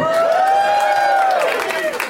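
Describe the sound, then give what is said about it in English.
A live show audience in a very hot venue cheers and whoops loudly for about two seconds when asked to make some noise for the heat, a sustained high, wavering yell riding over a dense wash of shouting and clapping. “Make some noise for the heat, everybody!”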